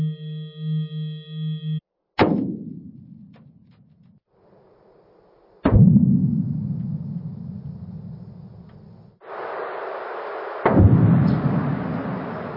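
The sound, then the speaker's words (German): Sped-up earthquake seismic recordings made at different distances: after a brief steady humming tone, three sudden sharp jolts each decay into a long low rumble, with a hissy noise band rising toward the end. “Diese ersten vier Beispiele sind einfach in unterschiedlichen Distanzen,”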